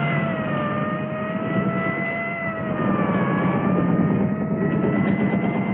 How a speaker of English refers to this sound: He looks toward the siren. A police motorcycle coming toward him. He pulls over as the motorcycle stops, allowing for an army truck to pass, followed by another truck.